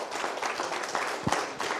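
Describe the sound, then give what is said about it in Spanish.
An audience applauds after a group exercise at a meeting on agroecological transition, a dense, steady wash of many hands clapping at once with no pauses, holding an even loudness throughout and no voices standing out. “Muchísimas gracias y un fuerte aplauso a este ejercicio.”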